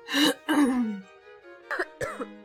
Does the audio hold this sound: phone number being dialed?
no